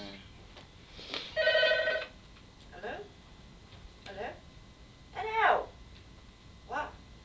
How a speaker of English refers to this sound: Did you know, that phone has non-stop rung. Getting on my nerves.